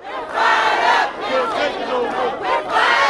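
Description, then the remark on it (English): A loud crowd of protesters, state workers and others angry about expected delays, chants and shouts together outside the state capitol in rising, overlapping bursts, voices filling the whole clip with energetic rally noise and no single speaker standing out. “State workers and others angry about the expected delays rallied outside the state capitol last week.”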